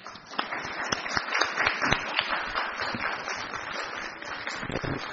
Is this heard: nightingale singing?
no